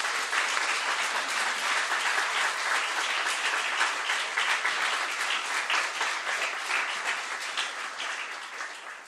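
A crowd at a talk on gentrification bursts into sustained applause welcoming a speaker up to give a presentation, many hands clapping in a dense, steady wash that holds loud for several seconds before tapering slightly toward the end.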